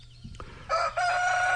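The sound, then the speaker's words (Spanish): A rooster crows loudly, a bright harmonic call that breaks briefly then holds strong to the end, with a soft low rumble underneath. “¡Ay, ese gallo!”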